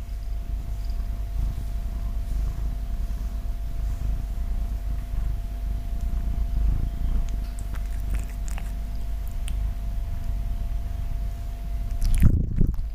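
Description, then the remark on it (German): An old domestic cat purrs steadily, a low continuous rumbling with a soft rhythmic pulse, ending in a brief rustling bump near the end. “Schnurr mal ein bisschen, ne?”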